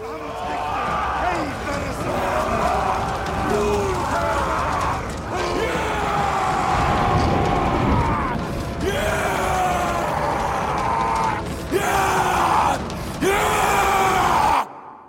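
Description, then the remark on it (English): In a film scene, a group of men as Vikings doing a warrior dance around a bonfire at night before a raid chants in rough, rhythmic bursts, the voices swelling into loud guttural roars and shouts before a final drawn-out howl by Alexander Skarsgård, with the whole chorus ending abruptly. “like a beast, and he howls like a beast, as you'll hear in this scene in which the Vikings, on a night before a raid, are doing a warrior dance, chanting around a bonfire at night. The chant turns into roars, and at the end, you hear Skarsgård howl.”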